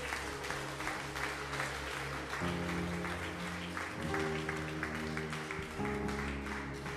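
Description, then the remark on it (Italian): An audience claps steadily for about seven seconds for performers returning to their places, a dense wash of applause over sustained organ-like chords that shift a few times underneath. “E mentre loro tornano a posto, e per favore fategli un applauso, che sono stati bravi.”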